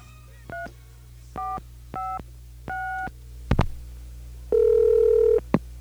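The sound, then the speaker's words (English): Four short touch-tone beeps from a phone keypad, spaced evenly, as a WFMU radio host dials the Movie Phone film listings line, then a couple of sharp clicks and a steady, one-second telephone tone over a low line hum, ending in another click. “777-FILM. And see what's in the area.”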